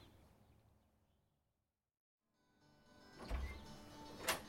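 A car's faulty starter motor whirs and grinds as the car fails to start, the engine not catching, rising after a brief silence into a strained mechanical whine with a couple of louder bursts, with no voices.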